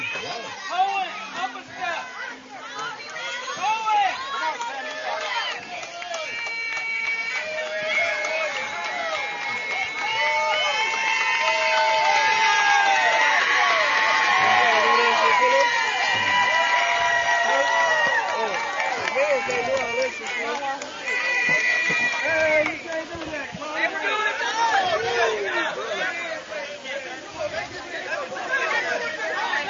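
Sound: baseball crowd cheering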